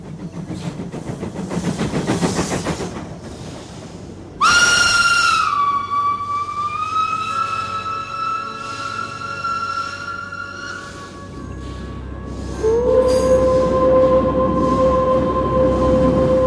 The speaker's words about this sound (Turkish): Dışarıda peronların orada kalktı 15.45 katarı. Bu tren yataklı vagonuna rağmen trenlerin en külüstürüdür. 6 kuruşluk cigara gibi bir şey.